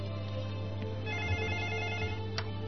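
A telephone rings with a steady, sustained electronic tone that carries on without pause, fairly quiet, with no one speaking; it is an incoming call that the speaker is about to answer.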